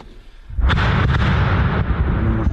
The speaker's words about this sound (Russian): Посреди леса все взрывы ощущаются ближе обычного. Ничего не сдерживает эхо, расходящееся на сотни метров.